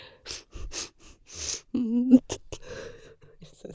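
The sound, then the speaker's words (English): A series of sharp, breathy sniffs and inhalations as a person huffs vapor rub, several quick bursts in uneven rhythm, broken midway by a short low voiced groan, then a few softer trailing breaths. “Oh, I'm huffing my vapor rub.”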